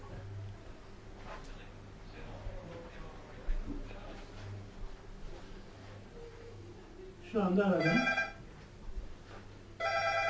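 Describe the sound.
A cell phone rings twice in short bright electronic bursts as a call comes in, the second cut off at the end, over a steady low hum and faint murmuring voices.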